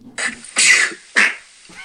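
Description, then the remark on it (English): A sharp, noisy sneeze bursts out, followed by a brief rude fart noise, all in quick succession within two seconds, fairly loud with no talking. “A sneeze and a fart.”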